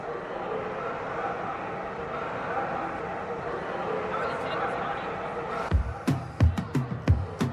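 A steady wash of broad, crowd-like noise fills the first few seconds, then dogs break in with a quick burst of six or seven sharp, loud barks in an uneven rhythm.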